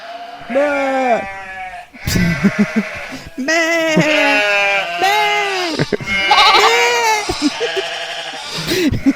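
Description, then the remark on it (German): A person loudly imitates sheep bleating, producing a string of about six wavering, nasal baa sounds in close succession, clear, with brief breaths between them. “Weißt du, jetzt ist gerade übrigens bei dem vielen Gemähe ist jetzt mein Hund hier reingekommen.”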